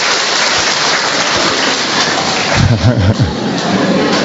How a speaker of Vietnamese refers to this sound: Rồi chúng ta mời một người khách đặc biệt đến giáo điểm tin mừng của chúng ta lên đây chia sẻ với anh chị em mình. Chúng ta cho một tràng pháo tay chào người anh em này.